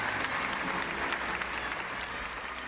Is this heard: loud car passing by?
no